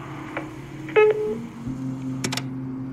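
A single short electronic beep, like an answering machine tone, sounds clearly near the start, followed by faint clicks and a low steady hum with no one talking.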